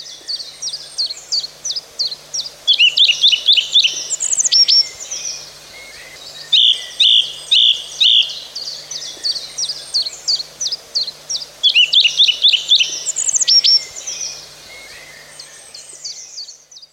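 A song thrush sings clear, repeating short bright phrases in quick bursts separated by brief pauses, with a few rapid trills standing out; no voices, just the bird against a quiet background.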